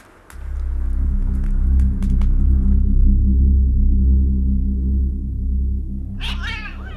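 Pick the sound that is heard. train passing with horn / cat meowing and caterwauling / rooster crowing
cat meowing and caterwauling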